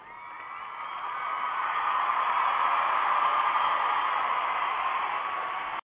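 A crowd cheering sound effect, played on a show as a cheer for a listener who emailed the show: a dense, steady wash of voices that swells over the first second, holds loud and even for several seconds, then stops abruptly.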